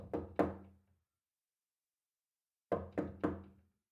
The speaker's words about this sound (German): Nachdem sie zurückgekehrt war, klopfte sie behutsam an die Schlafzimmertür.